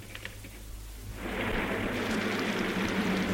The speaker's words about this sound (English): It's raining again.